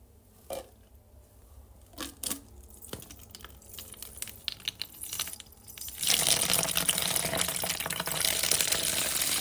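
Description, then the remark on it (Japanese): After a few seconds of light handling clicks and rustles, a steady stream of urine pours into a paper cup held in place in a toilet, hissing continuously to the end with no talking. “じゃあね、おしっこ聞いてください。”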